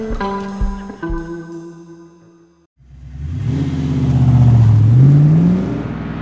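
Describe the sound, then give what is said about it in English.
A few sustained musical notes fade out, then the engine of a rented Ford car starts up and revs, its pitch climbing loudly as the car accelerates away. “Mark was behind the wheel of a rented Ford by 8:30 the next morning”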